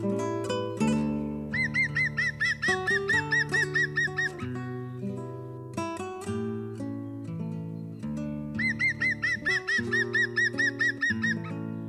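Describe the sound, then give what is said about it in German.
A European green woodpecker gives its ringing, laughing call: two rapid series of about a dozen loud, even notes, set over sustained musical tones. “Das war der Grünspecht.”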